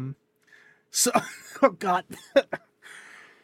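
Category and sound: human body sound, coughing fit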